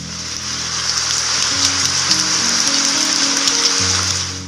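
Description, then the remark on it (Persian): Steady, dense rain hisses evenly throughout, with soft sustained low musical tones shifting slowly underneath; no one speaks. “آسمان آینه لطافت توست وقتی باران می‌بارد.”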